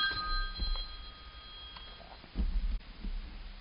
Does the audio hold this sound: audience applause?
no